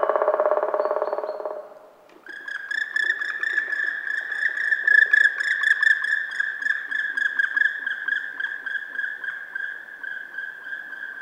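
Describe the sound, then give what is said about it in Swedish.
A European nightjar churrs on a summer night, a steady, mechanical trilling purr held unbroken for about nine seconds after a short burst of softer, lower noise. No one speaks. “Eller kanske spelar nattskärran i sommarnatten.”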